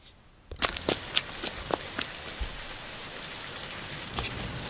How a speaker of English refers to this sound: Babe, I didn't know there was a storm coming. We better hurry.